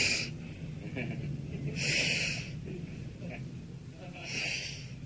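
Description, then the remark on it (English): A man mimics sniffing with his voice: three sharp, airy sniffs spaced about two seconds apart, fairly loud over a low murmur of background noise. “And that little drunk stand there, and he starts sniffing.”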